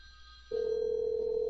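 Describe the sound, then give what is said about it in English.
A steady, mid-pitched telephone ring tone of an outgoing call, played over a speakerphone, starts partway through and holds unbroken to the end, sounding thin as if heard over a phone line, with faint background hum. “Can you hear that ringing? Yeah, we can hear the ring.”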